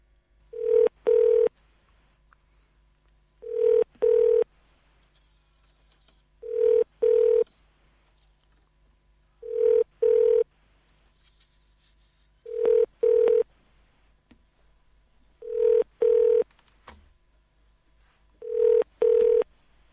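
A phone line's ringback tone from a call to the Australian Space Agency repeats steadily, seven double-pulse rings spaced about three seconds apart, clear with a faint hiss between them and no voices.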